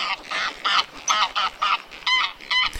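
A flock of geese honking repeatedly in quick, overlapping bursts, about eight loud nasal calls in under three seconds, with no other voices.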